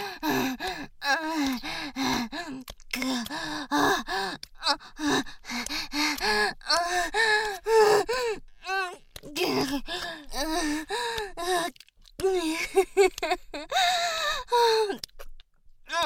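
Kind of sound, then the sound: human body sound, heavy panting breaths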